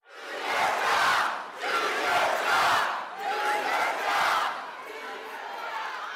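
A large indoor crowd at Senator Tom Cotton's town hall meeting in a Springdale venue seating 2,000 yells and chants in loud, rhythmic surges, with several swelling bursts of massed voices that rise, dip briefly, and keep roaring, with no single speaker standing out.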